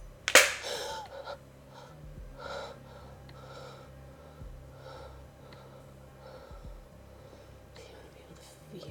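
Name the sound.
woman gasping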